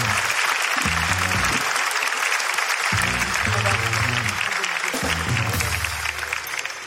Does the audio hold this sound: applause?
yes